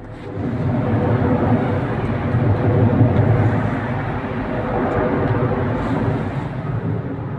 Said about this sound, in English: Social media videos flooded the internet, supposedly showing Mr. Prigozhin's private plane crashing with him and other Wagner leaders on board